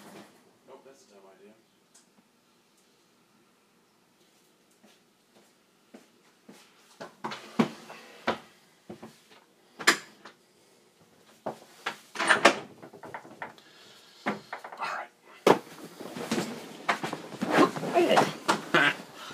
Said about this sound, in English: Okay. I should open the car door first. All right, hold on.